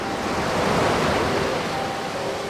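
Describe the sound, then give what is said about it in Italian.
Waves wash steadily onto a sandy beach, a continuous hissing surf that swells slightly and then eases back, fairly loud, with no voices. “La sabbia calda, l'acqua che mi scorre sui piedi.”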